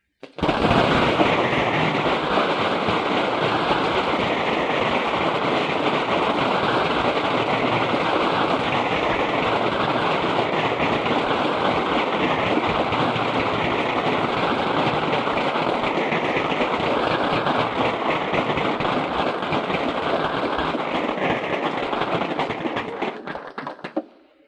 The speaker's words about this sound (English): I think this standing ovation is testimony of both the interest and acceptance and the appreciation of your comments today to this group of engineers and communicators.